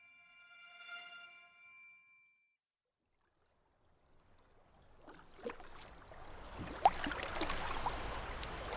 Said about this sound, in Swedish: En liten roddbåt kryper fram genom den väldiga hamnen i Alexandria. Vattnet är svart som bläck under natthimlen.